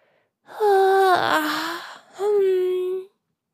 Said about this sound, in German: Merle gähnte auch.